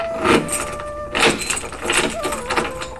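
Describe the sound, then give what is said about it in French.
A key locks the door of a small abandoned house, giving four bursts of metallic rattling and clicking spread over about three seconds, with a faint ringing tone underneath. “Le roi repère une petite maison abandonnée, demande à son ministre d'y entrer et referme la porte à clé.”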